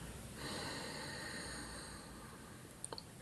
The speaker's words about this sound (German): Wir atmen gemeinsam aus, um unseren Atem zu synchronisieren.